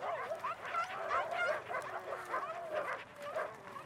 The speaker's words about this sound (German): Und das Rudel verabschiedete sich mit lautem Gebell.